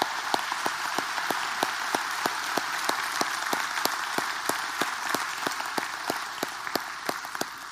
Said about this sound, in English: So on behalf of a grateful nation, on behalf of a grateful church, today we celebrate you on this Veterans Day. Let's give them a hand clap today.